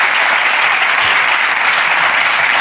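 An audience applauds a man coming up onto the stage, clapping steadily in dense, continuous applause, many hands blending into a loud, even wash of sound with no voices standing out.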